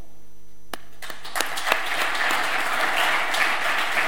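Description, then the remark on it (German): A few scattered claps grow quickly into dense, unsynchronized applause from a crowd, each person clapping at their own pace with no shared rhythm, steady and fairly loud throughout. “jemand bittet, mach doch mal bitte meinen Applaus”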